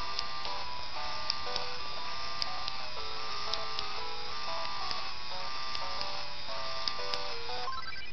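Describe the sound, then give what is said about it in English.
A small Game Boy printer runs steadily for several seconds, printing, its motor giving a continuous buzzing whine that shifts between pitched tones, with faint periodic ticks and no one talking. “Alright, we'll turn the printer on.”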